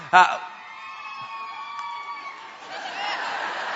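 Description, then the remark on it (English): An audience member at a church celebration lets out a sudden loud yell that turns into a long, high, wavering scream and whoop, with a crowd's cheering noise swelling underneath toward the end. “Crazy African screaming somewhere, I think, is what that was.”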